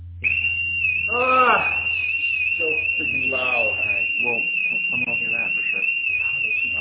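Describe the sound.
An elevator alarm, set off by pushing the alarm button inside the elevator, rings as one loud, unbroken high-pitched tone that starts almost at once and holds steady to the end, while voices talk and exclaim underneath it.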